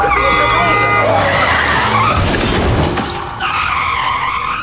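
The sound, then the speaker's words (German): A taxi skids with a sustained, high tire squeal, then a loud crunching crash as it causes an accident that wrecks another car, followed by more squealing as the taxi drives off. “Die temperamentvolle und rücksichtslose Taxifahrerin Mariela verursacht einen Unfall, haut ab, aber Julios Auto ist geschrottet.”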